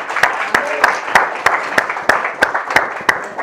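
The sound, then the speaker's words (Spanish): An audience applauds the Lord, with loud steady claps falling in an even rhythm of about three per second. The claps sit over a dense wash of scattered clapping and crowd noise. “¿No merece que le demos un aplauso al Señor por eso?”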